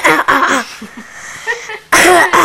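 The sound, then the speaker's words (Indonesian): A woman, an aunt, coughs: a couple of loud, harsh bursts at the start, a quieter stretch with faint rustling, then another strong round of coughing at the end. “Tante lagi batuk.”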